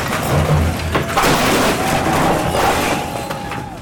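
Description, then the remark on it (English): The city demolishes a building in the Commercial Circle area of Warner Robins in a sustained, loud roar of crashing and rumbling debris, with repeated sharp impacts and a deep boom near the start, no voices. “Also in Warner Robins today, the city demolished another building in an area called Commercial Circle as a part of their effort to build a town center.”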